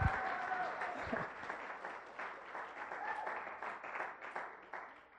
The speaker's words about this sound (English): I'll take that forced applause. Thank you very much.